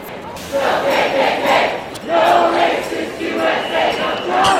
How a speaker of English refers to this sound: And the crowd continues to pour out of the terminal.